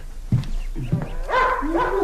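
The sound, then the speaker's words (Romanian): A dog returning alone gives a few short barks, then lets out a longer, wavering whine-like cry, with no one speaking. “E doar unul dintre câinii cu care a plecat și care se întoarce singur.”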